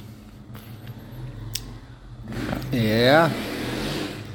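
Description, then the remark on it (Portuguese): A motorcycle passes by outside in Jundiaí, its engine whining up and then dropping in pitch as it goes, loudest for about a second over a steady background hum. “Ó, a moto.”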